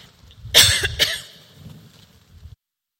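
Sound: coughing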